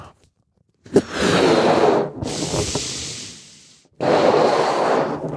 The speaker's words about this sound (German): Und dann nimmt man den Ballon, pustet ihn auf.